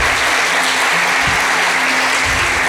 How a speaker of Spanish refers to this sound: Eso merece un aplauso. ¡Wow! ¡Wow!